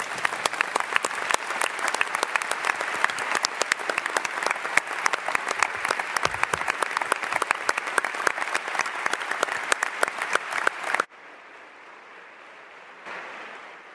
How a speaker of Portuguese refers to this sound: que ele tem imensas diversidades para enfrentar e ainda assim está aqui e deu o melhor que podia, fez o melhor que podia fazer, e eu pedi um forte aplauso para ele.